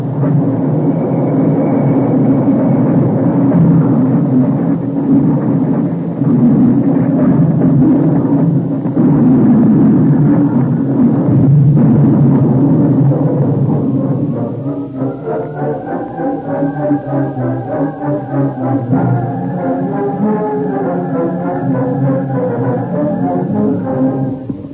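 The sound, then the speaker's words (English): A runaway train thunders along and crashes in a long, loud, rumbling roar that holds steady for several seconds, then gives way to sustained, ringing tonal chords. “Companion had seen the runaway train from a distant hill and had ridden to the scene of the wreck at top speed.”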